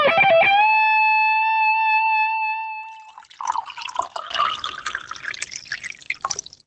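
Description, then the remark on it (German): A clear ringing tone sustains for a few seconds, then fresh water is poured into a glass, a steady splashing, gurgling stream with no one talking. “Ein frisches Glas Wasser, herrlich.”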